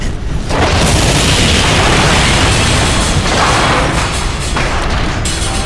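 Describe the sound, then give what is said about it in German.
A loud, sustained roar of detonations and blaster shots fired almost without pause in a firefight, heavy booms and sharp bursts piling on top of each other, dense and rumbling with no let-up, and no voices. “Die Strahlerschüsse und die Detonation verwandelten die Einschlagstellen in glühende, rauchende Löcher und entflammten flackernde Feuer.”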